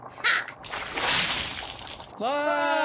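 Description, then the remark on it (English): Water splashes onto a person in one loud, sloshing burst that washes out over about a second and a half, then a voice abruptly cries out. “Acid! Hold on, this isn't acid. It's just water.”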